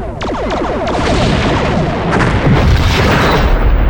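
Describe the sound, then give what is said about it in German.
A loud barrage of sci-fi weapon fire, photon torpedoes launching in a rapid series of booming, zapping blasts with sweeping tones, continuous and dense with no voices. “Ich sagte Photonentorpedos, Feuer!”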